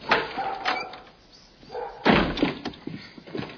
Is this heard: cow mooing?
no